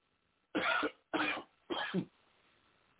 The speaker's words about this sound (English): Excuse me, people. I try not to cough on air, but my throat got a little dry there.